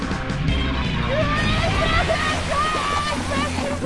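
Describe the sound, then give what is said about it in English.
A loud, steady rush of churning water from a central toilet system being flushed fills the whole stretch without a break, with faint muffled voices and squeaky tones buried underneath. “Retract and access central toilet system and flush him out.”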